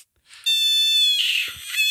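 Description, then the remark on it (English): A giant screaming frog lets out a single loud, shrill scream, a sustained high-pitched wail that holds for well over a second and wavers slightly near the end, with no talking. “Yeah, I mean, let me play you a clip of a giant screaming frog.”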